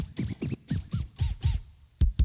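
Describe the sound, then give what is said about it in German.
A rapid series of vinyl-style scratch effects played from a keyboard, with the scratch sounds spread across the whole keyboard: rubbery swooping zips in quick pairs, ending with a couple of sharp, brighter scratch stabs. No voices. “Hier haben wir die Scratcher, ne? Über die ganze Tastatur verteilt natürlich.”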